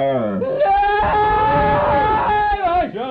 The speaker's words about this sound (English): I mean, maybe we should protest and shout right now, do you think? Maybe a little bit of shouting would be good? Guys, shout.